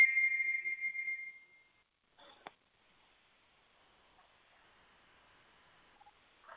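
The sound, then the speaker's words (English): A steady, high-pitched little whistle holds one tone for about a second and a half, then fades away, followed by a brief sharp click and a faint low hiss. No one speaks. “Heard a little whistle there.”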